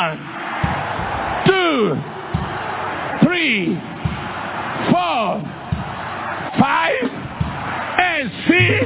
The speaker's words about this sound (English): Give the Lord 7 hallelujah shouts.